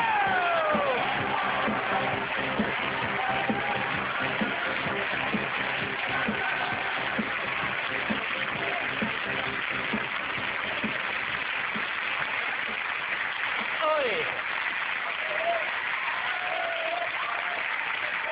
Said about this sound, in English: Let them applaud, it'll be fine, huh?